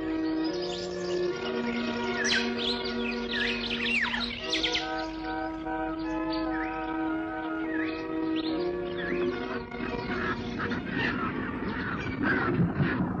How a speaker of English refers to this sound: Were uglier birds ever born? Heads like hairless old men. Old men in the long dark winter of their days. Bare-necked and bald. Vultures.